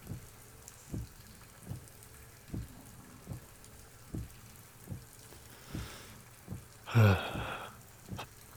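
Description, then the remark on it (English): Steady rain hisses in the background while dull thumps land at a regular, paddle-like rhythm, with a brief louder splash near the end; no one speaks. “Goddamn rain. I'm freezing.”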